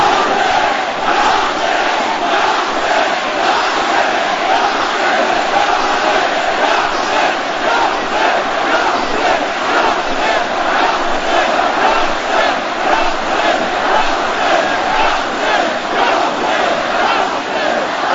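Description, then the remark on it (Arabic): A large crowd chants "Ya Hussein" over and over, a dense, loud wall of voices rising and falling in a steady rhythmic pulse with no pause throughout. “وأننا رجال ونساء الميدان الذي يبقى يصرخ ويصرخ يا حسين.”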